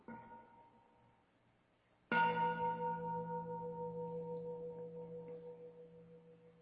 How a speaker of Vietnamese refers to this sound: Thầy xin nhờ anh Đồng Vàng cho thầy một tiếng chuông để đại chúng.